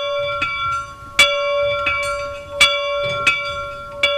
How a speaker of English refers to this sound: This is the old factory bell here in Loch Distillery. It would call the workers to work, break for break time, lunchtime, and going home in the evenings as well.